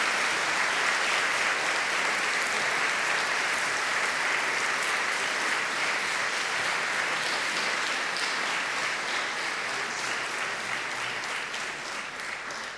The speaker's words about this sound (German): Ich denke, wir haben so viele gute Lieder jetzt gehört, so viele gute Beiträge, und ich möchte euch vielleicht bitten, dass ihr diesen jungen Menschen einen Applaus gebt dafür, was sie getan haben.